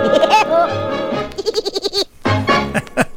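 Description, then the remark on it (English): A voice imitates a woodpecker's laugh in a polka song: a run of quick, high-pitched, bleating staccato syllables in a bouncy rhythm, loud and repeated in two bursts, with a low bass note underneath. “So let's all laugh. Just like the woodpeckers do.”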